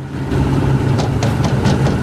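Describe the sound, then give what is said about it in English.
The engine of a red pickup truck idles steadily after stopping on a road below a house in the countryside, a low, continuous rumble with a few brief rattling bursts layered over it. No one speaks. “They stop on the road below Hibba's house”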